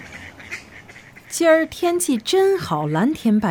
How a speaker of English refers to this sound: I love this park. My best memories are from walking around here feeding the ducks.